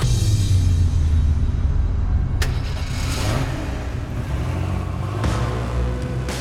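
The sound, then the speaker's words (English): A car engine runs steadily with a low rumbling drone as the car heads to a compressor station, the pitch shifting slightly as it drives, with a couple of brief clunks along the way and no one speaking. “He waited until the next time the hum appeared, and then jumped in his car and headed to the compressor station.”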